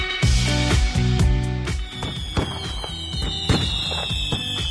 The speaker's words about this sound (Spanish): Felicidades a los Juanes, a las Juanas, cohetes, fuegos artificiales para celebrar la noche más larga del año, la más bonita.